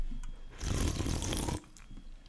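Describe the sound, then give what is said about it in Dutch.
One loud, noisy slurping sip of ginger beer lasting about a second, rising abruptly and cutting off, with quiet stillness before and after and no talking. “Ik ga beginnen met een slokje van mijn ginger beer.”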